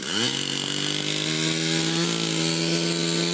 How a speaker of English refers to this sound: You might not think that the din of a chainsaw overcoming the calm of a forest would be welcome, but in some cases it is. On a recent fall weekend, dozens of volunteers from across New York State went to work in the heart of the Adirondack Mountains.